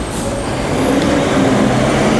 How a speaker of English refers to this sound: There's a garbage truck. I wish there was a way to get rid of garbage that wasn't so fucking noisy.